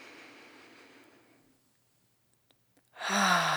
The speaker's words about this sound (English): Again, breathing in through the nose.